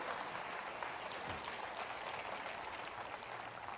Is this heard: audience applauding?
yes